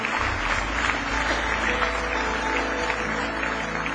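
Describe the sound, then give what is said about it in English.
A crowd gives a hand clap for God, clapping steadily for several seconds, a dense, continuous wash of many hands with a low hum underneath and no voices standing out. “Give Him one more hand clap if you love Him with all your heart this morning.”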